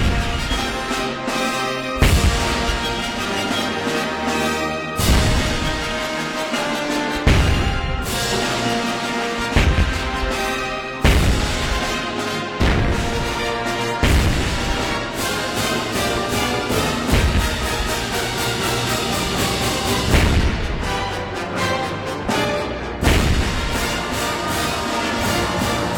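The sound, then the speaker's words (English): Booming cannon shots in the 1812 Overture burst out every two to three seconds over a loud, full orchestra playing a grand, sweeping passage, each blast cutting sharply through the music. “things like the William Tell Overture, you know, that teachers would play you because they'd play you the good stuff in the 1812 because they knew that that would keep a kid's attention because it had cannons in it.”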